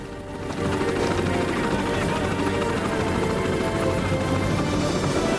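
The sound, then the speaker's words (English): Helicopters carrying SEALs and FBI men lift off with a loud, continuous roar of rotors and engines that swells in the first half-second, then holds steady and dense, filling the whole clip. “The great aircraft dust off.”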